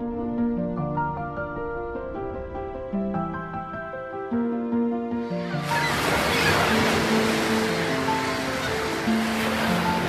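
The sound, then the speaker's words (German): Loud ocean surf rushes in with a broad roaring wash, surging onto shore over a gentle musical backdrop that continues beneath it; no voices. “Doch zugleich aufbrausend, wild und zerstörerisch. So formt Wasser die Welt, in der wir leben.”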